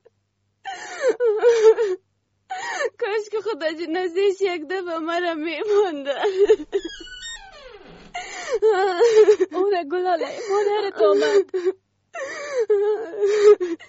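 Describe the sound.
A woman cries and wails up close in long, trembling, moaning phrases, words sobbed out between gasping breaths, with a few brief pauses and a sharp gasp midway.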